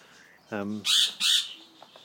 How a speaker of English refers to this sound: I'm walking past a bird enclosure, in case you wondered, which also has a rabbit. So, you might be able to hear birds.